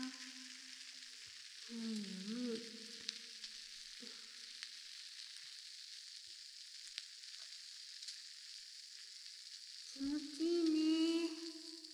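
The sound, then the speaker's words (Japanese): Steady, bright fizzing crackle of a carbonated skincare product applied at both ears runs throughout, with a few brief low tonal squeaks and rubbing sounds around the start and end. “炭酸の音って気持ちいいもんね。”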